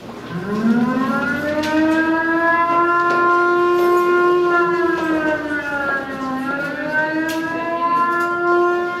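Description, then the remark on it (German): A civil defense air-raid siren wails the special alarm signal meant to announce the outbreak of a third world war, rising at the start and holding a long loud tone with a slight dip in pitch partway through; no voices, just the siren alone. “Ja, dieses Sirenenzeichen, das war dieses spezielle Sirenenzeichen, das anzeigen sollte, jetzt bricht der Dritte Weltkrieg aus.”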